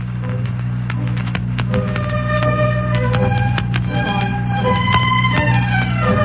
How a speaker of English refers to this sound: Toy? No, clock. That is the clock.